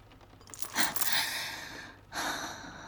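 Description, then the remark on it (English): Heavy, ragged breathing of a person whose throat is repeatedly being yanked: a long drawn gasp followed by a pause, then another strong exhale. Breathy and unvoiced, with no talking. “I'm breathing hard because you keep yanking on my throat.”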